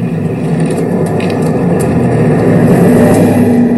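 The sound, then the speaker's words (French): A car engine runs loud, its steady roar thick with rumbling noise, then revs up with a rising pitch toward the end. No one speaks. “La foule au délire, voiture.”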